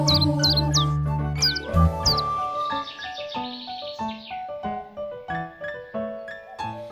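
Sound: birds chirping and twittering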